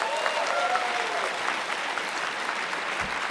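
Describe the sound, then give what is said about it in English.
A crowd claps steadily throughout, a dense wash of many hands with no clear rhythm, holding a fairly even loudness before easing slightly toward the end. “Show of hands, a round of applause.”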